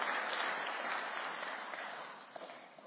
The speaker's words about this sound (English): Can we give a clap offering to our Lord Jesus Christ?